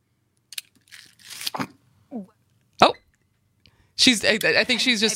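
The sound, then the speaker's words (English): A few harsh, sputtering coughs and throat-clearing bursts from someone who swallowed the wrong way, with a sharp single cough in the middle, before a voice starts talking at the end. “Wrong pipe.”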